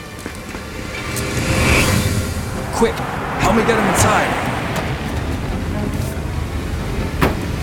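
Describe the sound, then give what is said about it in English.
A police patrol car's engine rumbles steadily as it pulls up in fog and then drives away, with a few sharp knocks and thumps while a person speaks urgently over the noise. “Pull the car around.”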